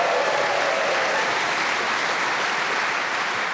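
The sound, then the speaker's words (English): A studio audience of the game show Just a Minute applauds and cheers for panelists Jenny Eclair, Kyle Smith-Bino, Julian Clary and Josie Lawrence, a dense wash of clapping with scattered cheers that holds at full strength for several seconds without a break. “Please whip and cheer for all of them.”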